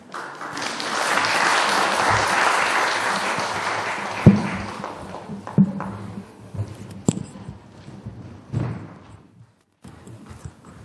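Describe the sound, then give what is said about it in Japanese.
An audience at a church worship service applauding to bless the children, dense and steady for several seconds before thinning out into scattered claps and a few louder thumps as it dies away. “皆さん、もう一度子どもたちに祝福の拍手をよろしくお願いします。”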